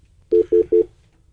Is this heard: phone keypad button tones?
yes